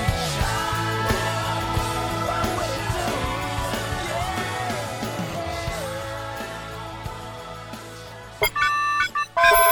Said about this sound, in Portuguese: Telefone de quem, isso aí?